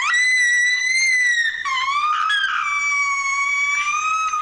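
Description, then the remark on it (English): A loud, sustained high-pitched scream of excitement from a girl of about 10 or 11 opening a Christmas present she didn't anticipate, shrill, holding a piercing pitch with brief wavering breaks for about four seconds, with no talking. “But that is actually excitement.”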